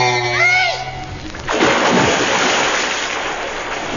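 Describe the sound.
A loud splash as a person plunges into water from a springboard, followed by a few seconds of churning, sloshing water. A short voice-like tonal sound comes just before the plunge.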